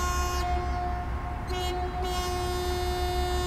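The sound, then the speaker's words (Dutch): A deep, loud ship's horn blasts continuously over steady rumbling background noise, holding one sustained tone for several seconds with no voices. It sounds as the ship departs from the outer harbour of Scheveningen, bound for the North Sea. “Ik sta even op het dek hier wachten tot de toeters gaan.”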